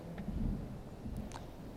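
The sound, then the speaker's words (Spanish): A crowd at a doctoral degree ceremony applauds 56 new doctoral graduates, a steady, dense patter of clapping at moderate volume with a few sharper high clicks standing out briefly. No one speaks over it. “Escuchamos ese aplauso de un total de 56 nuevos doctores.”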